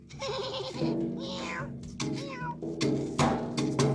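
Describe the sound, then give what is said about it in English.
A great big tomcat meows several times in drawn-out, wavering cries, loud, over a dense, steady background sound. “Just about that time, a great big tomcat, he come by.”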